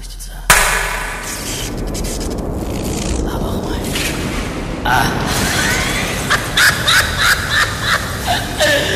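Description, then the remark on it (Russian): A single sharp hand clap bursts out, then a loud, steady roar of noise carries on for several seconds, with rough croaking, caw-like calls rising through it toward the end. “Я сейчас хлопну в ладоши, и пусть атомный реактор воображения наших зрителей запустится.”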